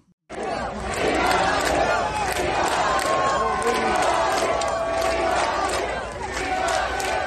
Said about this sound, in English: And there's that massive crowd in support of President Trump there in Florida, Doral. Absolutely amazing as he pulled up in the golf carts and he was able to basically bring the troops together for this amazing rally